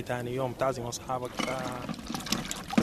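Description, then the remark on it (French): A woman tea vendor from Kordofan pours boiling water from a saucepan into a glass, with a spoon of sugar, in a few short bursts, each with a ringing tone that climbs as it fills, then a splashy trickle, with voices murmuring underneath. “Verre, casserole d'eau bouillante, cuillère de sucre.”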